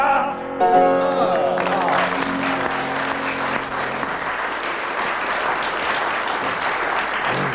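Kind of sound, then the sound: crowd, audience applauding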